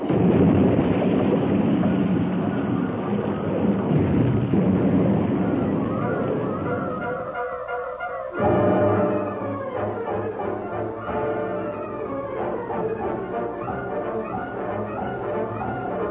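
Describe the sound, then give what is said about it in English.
A loud, churning roar of a train crash rumbles for about eight seconds as the cars leave the rails at a turn, roll over and crash into great boulders lining a slope, then breaks off abruptly into lighter scraping, clanking and ringing metallic tones that slowly settle. No one speaks. “The cars left the rails at the turn and rolled over and over until they crashed into the great boulders that lined the slope.”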